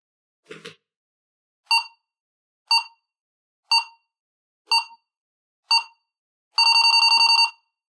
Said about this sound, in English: ok, so I will press and hold the volume up button and the bookshelf button at the same time. I will hold both these buttons down until I hear 5 slow beeps, followed by a series of quick beeps. I will then release the 2 buttons. Holding them down now.